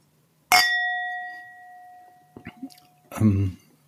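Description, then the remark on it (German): Glasses of Riesling wine clink together once in a toast, a bright chime that rings on clearly for a couple of seconds before fading, followed by brief murmured voices. “Prost. ein virtuelles Anstoßen.”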